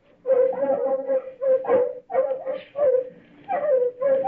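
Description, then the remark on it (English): Artificially enlarged terriers loosed in crop fields bark and whimper in a steady run of short, strained bursts, about six in quick succession, loud, with no one talking. “L plus 50, artificially enlarged terriers loosed in the fields of the fast crops. Following tape, field observation of terriers.”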